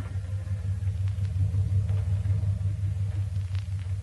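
A lawyer's car engine idles steadily at the front door of the Lancaster estate in a suburb as a woman gets out, a low continuous rumble with a faint rhythmic pulse, and no voices over it.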